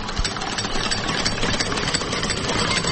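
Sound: car engine idling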